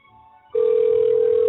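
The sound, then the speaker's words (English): A telephone rings on the line: after a brief quiet moment, a loud, steady single-pitched ringing tone starts abruptly and holds without a break. “Why is it ringing more than once?”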